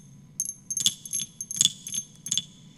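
At night, frogs croak in a low, steady, pulsing chorus, overlaid by bright rattling chirps that come in three or four bursts. No one speaks.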